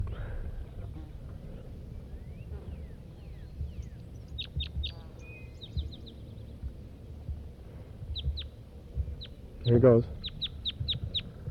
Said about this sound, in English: It's 9 o'clock now, 9 o'clock a.m., and there's a wild crossbill here. Red male.